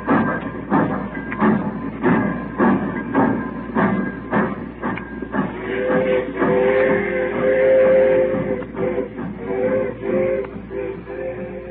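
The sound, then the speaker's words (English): A train pulls out of the station with a steady rhythm of chuffing and clacking, then a sustained whistle-like tone rises over the rumble as it moves off. No one speaks. “When that train went, I busted out and cried like a kid.”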